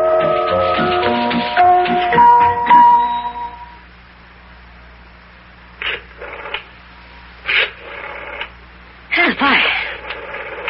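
A telephone in a living room being dialed to call Rabbit Ears' number: a quick run of short electronic tones for a few seconds, then a low steady hum with a few brief, faint bursts of sound; the caller keeps getting a busy signal.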